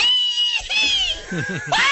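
A man lets out a loud, shrill, high-pitched scream that wavers and breaks, dips into lower vocal sounds in the middle, then surges back up at the end, close and intense.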